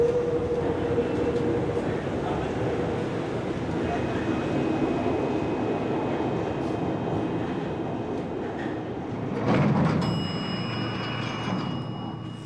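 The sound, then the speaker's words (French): A metro train rolls along with a steady, loud rumble and rattle, heard from inside, swelling briefly before a high electric whine rises near the end. “Et là, je suis en panique parce que le métro est en travaux.”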